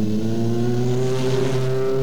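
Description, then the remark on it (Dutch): A Citroën BX car engine revs loudly, a steady, rich mechanical drone with strong harmonic tones held for a couple of seconds, with no voices present. “Als u dit hoort... aan welke auto denkt u dan?”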